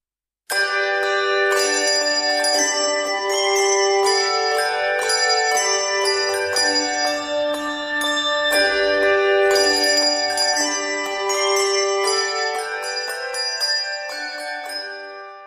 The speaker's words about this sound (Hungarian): templomtornyokban porosodó, csengő-bongó harangok, amelyekről oly keveset tud a 21. század embere.